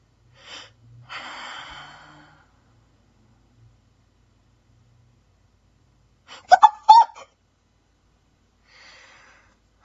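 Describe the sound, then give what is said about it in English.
Heavy, breathy exhales, first a long rasping breath, then a pair of sharp, gasping catches after a pause, and a faint breath at the end. No one speaks. “I heard you breathing.”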